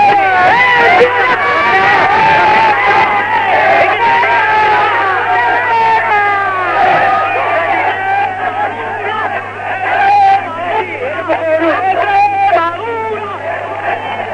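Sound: football fans cheering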